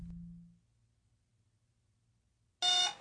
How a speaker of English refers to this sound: The alarm buzzer squawked wildly in Tendra Rezant's ship, the gentleman caller.